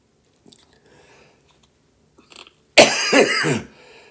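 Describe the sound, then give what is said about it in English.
A single loud, harsh cough bursts out after a few quiet seconds of faint clicks and rustling, then fades back to near silence. “Why am I coughing?”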